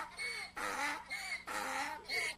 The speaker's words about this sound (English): Let me hear that donkey again.